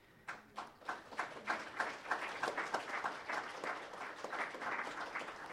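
An audience at a City Club program breaks into applause for its speakers on ballot Measure 97, starting with a few scattered claps that quickly swell into steady, dense clapping from a room full of people, sustained at moderate volume without any talking.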